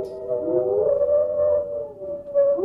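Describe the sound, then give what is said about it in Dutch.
A singing dog howls one long, steady note that holds its pitch for a few seconds, rising slightly at the start and end, clear with no talking. “Het is natuurlijk gewoon nog een jank.”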